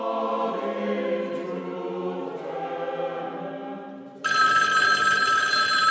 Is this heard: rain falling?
no